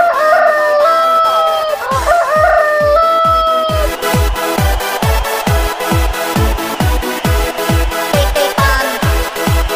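A rooster crows loudly near the start, its wavering call stretching over a couple of seconds, then a steady thumping electronic beat with music takes over and continues to the end.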